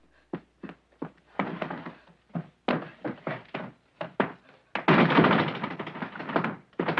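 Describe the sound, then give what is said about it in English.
A girl's fists pound on a kitchen door in uneven, rapid thuds, then break into a loud, frantic flurry of continuous banging before trailing off. “and then scrambles to the kitchen door, pounding at it.”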